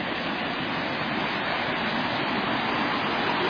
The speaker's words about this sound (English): Walking down to the creek. The waterfalls all along. Rushing through roaring water. There'll be a lot of ice on here in just a few days.